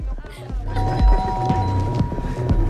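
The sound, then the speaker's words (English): A doorbell in a row of flats sounds a sustained electronic ring for about a second, set against busy background noise and indistinct voices, with a few soft thuds underneath, as a group walks along pressing every doorbell they pass. “they're walking along a row of flats, pressing every doorbell they pass.”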